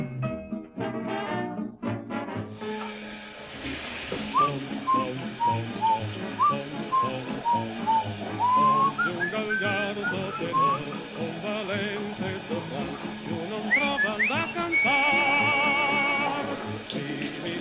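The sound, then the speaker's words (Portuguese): A man whistles a wandering, melodic tune in clear high notes while shaving, rising and falling, over the steady hiss of running tap water, with a brief burst of noise just before the whistling begins. “Recordas como asubiaba ao barbearse?”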